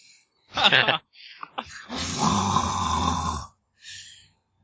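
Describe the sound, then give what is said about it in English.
A person vocally imitates a character hit by a blaster shot, a grunt or gas escaping from the wound: a short breathy burst, a few sputtering clicks, then a long, strained, rasping rumble lasting over a second, ending with a brief hiss. “Letting out, you're not sure if it's a horrific grunt or if it's just gas escaping from his new, exit.”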